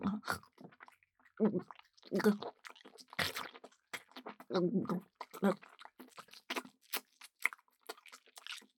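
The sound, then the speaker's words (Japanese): Wet squelching mouth sounds of someone chewing and swishing a mouthful of semen from a condom: irregular smacking and sticky chewing noises repeat in quick bursts throughout, loud and intimate, with small clicks and slurps between. “味わうみたいにくちゃくちゃしちゃったから、余計に口の中、臭い匂いでいっぱいです。”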